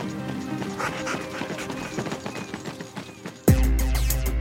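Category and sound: running footsteps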